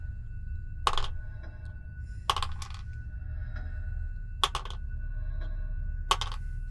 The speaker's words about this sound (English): That's a lot of dice,